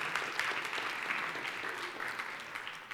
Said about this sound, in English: Let's give her a big clap.